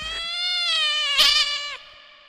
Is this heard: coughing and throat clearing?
no